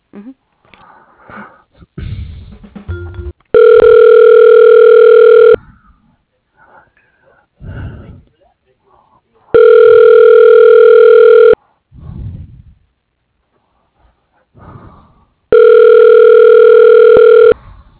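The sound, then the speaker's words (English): A telephone ringback tone sounds three times as a call to a City Commission Office is transferred, each steady two-second ring separated by about four seconds of quiet line with faint breathing and soft background noise. “Let me transfer you. Hold on.”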